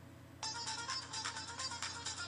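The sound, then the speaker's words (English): A phone ringtone preview, played with the phone's volume turned down, starts abruptly and plays softly, a bright electronic melody with quick pulsing notes repeating steadily until the end, with no voices. “I have the volume on the phone down, so it's not blasting.”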